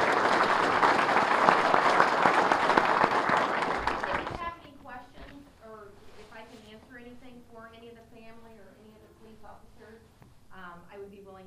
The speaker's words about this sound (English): So folks, let's give her a round of applause. We really appreciate it.